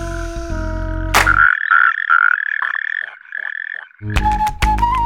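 A Mediterranean tree frog gives a run of loud, nasal croaks, about seven, in a steady spaced rhythm. Brief music plays before and after the calls.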